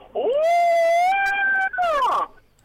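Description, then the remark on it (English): A person lets out one long, loud howling yell of about two seconds imitating the crow of the wrestler Sting, rising in pitch, holding steady, then dropping off at the end, much like a wolf's howl. “That is my Stinger Crow.”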